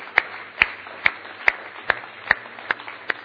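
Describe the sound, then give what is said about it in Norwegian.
An audience applauds with steady, evenly paced clapping, about eight sharp claps in a row at a regular rhythm, moderately loud over a low, constant hum. “Og så foreslår jeg aller først at vi bare gir de menneskene et skikkelig applaus for sitt mot.”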